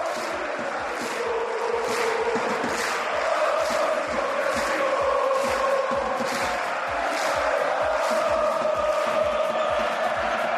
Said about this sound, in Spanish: Grito atronador el de la hinchada del Burgos, que disfrutó de lo lindo